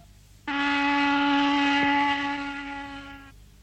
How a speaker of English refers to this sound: Prove it to you? All right, then. Our factory whistles can be perky. Or gloomy.